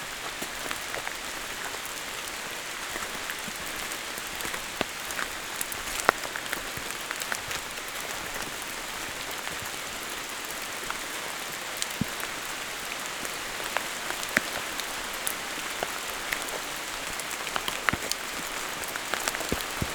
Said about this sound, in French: Légèrement à l'abri, sous le feuillage. La nuit est totale. Le clapotis de la pluie. Vous berce-t-il?